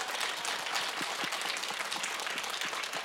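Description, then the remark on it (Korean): An audience claps continuously for about three seconds, a dense, steady wash of many hands at an even, fairly strong level with no speech over it, applauding and cheering a music quartet. “콜텟이 되기를 큰 박수 환호로 응원해 드렸으면 좋겠습니다.”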